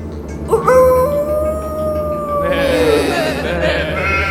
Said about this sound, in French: Ne craignez pas, je suis là. C'est un loup qui va et vient cherchant à dévorer sa proie.